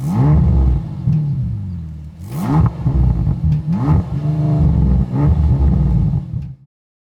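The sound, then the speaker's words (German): The 659 hp engine of a four-seat Bentley GTC cranks and catches, then settles into a deep, steady idle broken by several throaty revs that rise and fall before it cuts off abruptly. “Jetzt aber den Motor starten und auch dessen Laufruhe genießen.”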